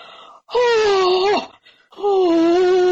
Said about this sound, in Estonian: Ja nüüd sa ägad.